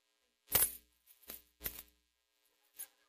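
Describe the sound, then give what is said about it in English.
Keys on a ring jingle and clink in a few short, bright bursts, fairly loud, with brief pauses between shakes and a final small rattle. No one speaks. “You know, every one of these keys in this ring, I guess it goes somewhere, unless she just gathers random keys and puts them on a ring.”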